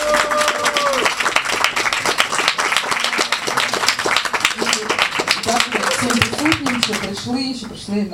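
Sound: loud audience applause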